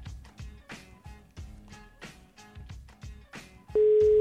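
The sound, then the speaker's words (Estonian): A busy stretch of rhythmic, clattering sound gives way abruptly to a loud, steady telephone ringing tone, an unanswered call to a person celebrating a birthday, sounding alone at the very end. “No, kaks korda lasen veel kutsuda ja siis ei ole midagi teha.”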